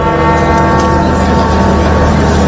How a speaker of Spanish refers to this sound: Son las campanas que han sonado este mediodía en recuerdo al Papa.